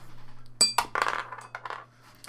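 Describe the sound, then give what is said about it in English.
A die rolled on the floor strikes it with a sharp click, then rattles and clatters in a quick series of bounces before settling, moderately loud over a low steady hum. “For all those listening, I rolled it on the floor.”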